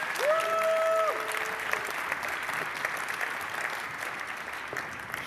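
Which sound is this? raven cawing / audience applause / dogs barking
audience applause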